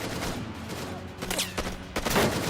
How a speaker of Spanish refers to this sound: Uno de los pistoleros intenta disparar a los agentes. Los miembros de SWAT abren fuego.